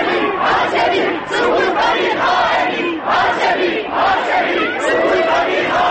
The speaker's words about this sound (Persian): صدای هاشمی رفسنجانی از سوی بلندگو به خیابان‌های اطراف دانشگاه تهران میرسد. جمعیت اوج می‌گیرد و یک صدا فریاد می‌زند.